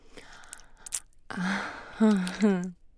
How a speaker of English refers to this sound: Those little gasps are so cute, baby.